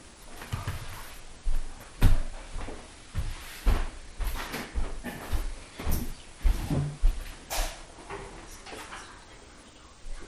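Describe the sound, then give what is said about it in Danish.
A door being closed, with a series of knocks, clunks and rattles of handling spread over several seconds, ending in a firmer thud. “Jeg tror lige, jeg vil lukke døren nu.”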